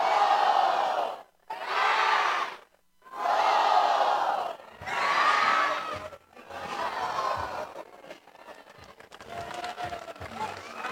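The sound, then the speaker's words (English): A baseball crowd at a Firework Friday night game chants "roll rat" in four loud, rhythmic bursts separated by brief pauses, then the chant dissolves into a steady wash of cheering and crowd noise. “Get those roll rat chants going, I love it.”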